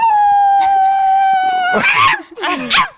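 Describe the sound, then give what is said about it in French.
A person imitates a Yorkshire terrier, starting with a long, steady high-pitched howl, then breaking into a couple of sharp, yappy whining barks, fairly loud. “tu fais vachement bien le Yorkshire”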